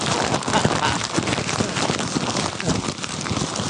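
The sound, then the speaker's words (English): Paper being crumpled, a dense, continuous crackling and rustling that lasts the whole few seconds with no one speaking. “Why am I crumpling this?”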